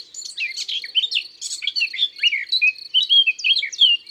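A small songbird, a warbler, delivers a fast, continuous song, starting with scratchy, chattering notes and shifting into clearer whistled phrases. It is fairly loud, with no voices.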